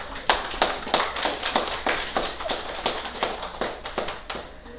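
A crowd applauds steadily for several seconds, sharp individual claps standing out over a dense, fairly loud bed of clapping, with no talking.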